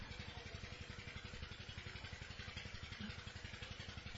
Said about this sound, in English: Whenever your mind goes to the sound of the water pump, bring it away this time from the water pump.